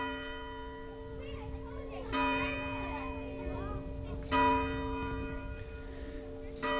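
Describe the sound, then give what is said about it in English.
A meeting house bell at Old Sturbridge Village, Massachusetts tolls slowly and steadily on Thanksgiving morning, summoning villagers to services, about one stroke every two seconds, each ring leaving a long humming resonance over faint background murmur. “The sound of the meeting house bell, summoning the villagers to services on a Thanksgiving morning more than 150 years ago.”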